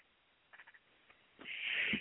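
frog croaking

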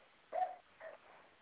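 dog barking

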